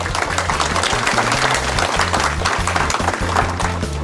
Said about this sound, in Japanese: 証券コード9625ジャスタック上場株式会社セレスポ代表取締役社長稲葉俊彦さんです。皆様どうぞ大きな拍手でお迎えください。